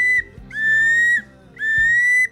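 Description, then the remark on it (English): A wood duck hunting call, imitating the peep of wood ducks, sounds a series of loud, high, rising whistled peeps: one brief note, then two longer drawn-out squeals with a slight upward slur, separated by short gaps. No voices. “Take us to the break with the wood duck call.”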